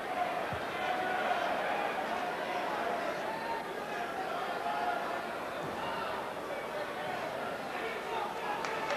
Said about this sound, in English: Both wrestlers now back at the ringside area. Bigelow now stomping Taz.